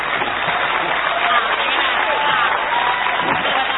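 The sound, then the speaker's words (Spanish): A large crowd gives a delirious ovation to a musician, a dense, steady roar of clapping mixed with cheering voices that holds at full strength for several seconds without letting up. “Corresponde ahora la ovación delirante dedicada al artista antes llamado ….”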